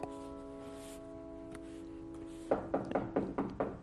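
A steady, sustained tone gives way to a quick, uneven run of about eight firm knocks on a door, fairly loud and crisp, with no talking.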